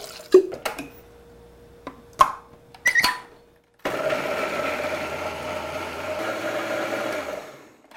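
A few sharp clicks and knocks, then a very old blender roars to life, grinding the remaining soybeans with a little water in a loud, steady whir for about four seconds before cutting off.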